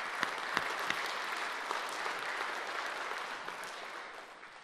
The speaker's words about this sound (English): Okay, round of applause for them as well. Well done.